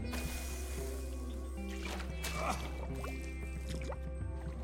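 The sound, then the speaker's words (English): Liquid is splashed onto a person's heart, splashing and dripping, with a brief burst of sloshing in the middle and scattered droplets afterward, all over a steady low background hum. “I splashed this on your heart to bring love to the surface.”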